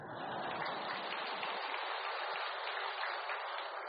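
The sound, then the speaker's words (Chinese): A crowd applauds steadily for about four seconds at a Buddhist teaching talk, a dense, even wash of many hands clapping at once with no voices over it and no pause or swell. “先鼓掌，待会儿再说吧。”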